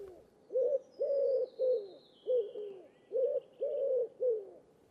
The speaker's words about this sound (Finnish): Kyyhkysen laulu on kuitenkin aika yksitoikkoista passoääntä, mutta sanotaan, että kauneus on kuuntelijan korvassa.